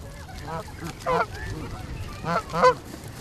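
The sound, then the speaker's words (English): Waterbirds honk and call in a few loud, nasal bursts, some overlapping, spaced irregularly over about three seconds against a steady outdoor background hum. “You can come down, sometimes see birds hunting fish on the side.”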